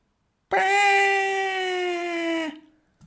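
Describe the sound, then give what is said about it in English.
A person's voice imitates a cat's meow as one long, steady, drawn-out tone lasting about two seconds, fairly loud and bright, with the pitch sinking slightly before it cuts off. “Because it'll just say and go, meow, like, this is how long it'll do, like, a meow for.”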